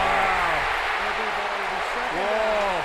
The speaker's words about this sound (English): Wow. Listen to how shocked Dan Dierdorf and Dick Enberg both are at that call. Listen to the crowd going nuts in shock.